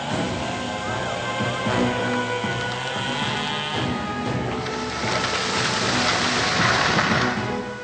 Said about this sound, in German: Hey, was soll denn der Krach? Wer stört mich denn hier beim Singen? Das sind Motorsägen.